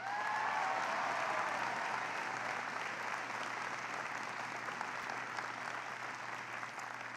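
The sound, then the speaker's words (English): Steady audience applause for the introduction of Harry Reid fills the full seven seconds, a dense, loud wash of many hands clapping with a few faint whistles near the start, tapering slightly toward the end. “We've got, can everybody give a huge round of applause for Tina Long for the great introduction of Harry Reid.”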